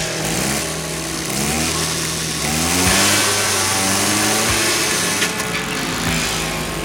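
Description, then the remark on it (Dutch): The small motor engine of a homemade motorized children's kick scooter, on a test ride on a public road, revs up and down repeatedly. Its buzzing pitch rises and falls in uneven bursts, fairly loud, with steady background noise and no talking. “Door het motorvermogen draaide al na een paar kilometer de achterband gewoon aan gort.”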